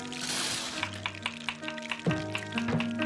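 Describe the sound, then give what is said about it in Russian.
Rancid oil sizzles steadily in a frying pan in a communal apartment, a continuous crackling hiss with occasional sharper pops and faint metallic clinks of stirring throughout. “Ну, вы знаете, я боюсь, что нам здесь не удастся с вами удержать лирическую ноту, потому что звуки коммунальной квартиры – это шипение, значит, прогорклого масла на сковородке, это перебранка соседей, это громыхание кастрюлей.”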